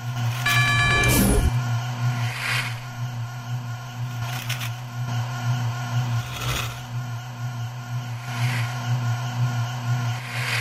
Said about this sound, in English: So that humming noise tells you that brakes are active, I believe.